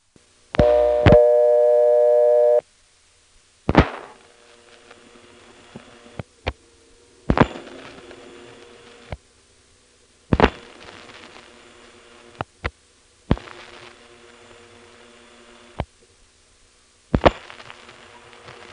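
A telephone trunk line on a connection to Harrisonburg, like a cross between a Type 2 and a Type 3 trunk, with a steady whooshing hiss of white noise, broken by a brief tone near the start and a series of sharp clicks and thumps spaced irregularly throughout.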